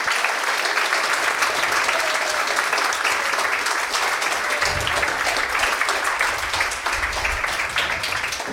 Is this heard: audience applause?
yes